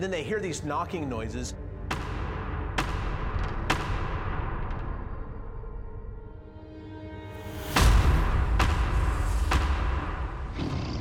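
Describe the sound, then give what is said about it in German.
A series of sharp, loud wooden knocks attributed to Bigfoot (Sasquatch), about seven in all, spaced irregularly and each trailing off in a ringing decay; a brief voice-like sound is heard at the start. “Für uns Menschen jedoch klingt dieses Klopfen sehr bedrohlich.”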